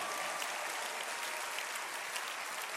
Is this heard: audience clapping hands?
yes